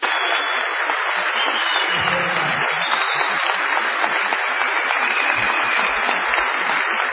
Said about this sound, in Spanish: Aquí estamos en la ciudad de Tucumán, en el Teatro Mercedes Sosa. Vamos a saludar con una ovación a Patricio Barton.